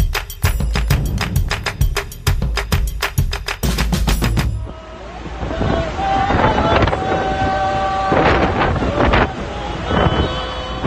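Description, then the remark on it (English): A military-style boat carrying a group of Tongans motors across open water toward Awa Island, with heavy wind gusts buffeting the microphone at first, then a steadier engine drone and water rush, with faint voices in the background. “They're on board a military-style boat headed for Awa Island, a place they can now call home.”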